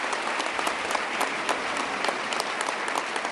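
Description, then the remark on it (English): An audience applauds steadily for Majority Leader Dean Skelos, a dense wash of many hands clapping at an even, moderate loudness with no voices standing out, sustained through the whole stretch. “Majority Leader Dean Skelos, big round of applause for Majority Leader Dean Skelos.”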